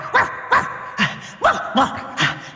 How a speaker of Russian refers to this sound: Он выскочил на берег и опять принялся лаять на Сергея.